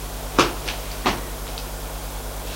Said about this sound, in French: Martin entre. Denis ferme la porte.